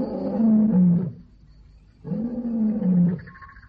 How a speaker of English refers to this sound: What's he saying? He must be saying something. There's a Swahili legend that when the lion roars, he's saying, Chianani, Yangu, Yangu, Yangu. Whose is this land? Mine, mine, mine.